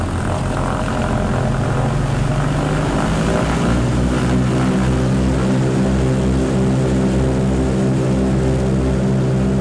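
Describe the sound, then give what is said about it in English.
A vintage three-engine, all-metal propeller airliner with two pilots and nine passengers drones loudly and steadily in flight, cruising 1,000 feet above the ground at 90 miles an hour toward downtown Ottawa, with layered low harmonic hum and a rushing, windy roar throughout, no voices present. “This is the first all-metal airplane manufactured in the United States where the passengers could ride indoors.”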